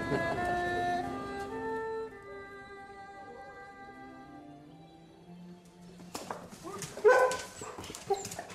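Weimaraner dogs whine and whimper in long, drawn-out tones as a bag of food is brought, slowly fading before a burst of sharp yips and barks breaks out near the end.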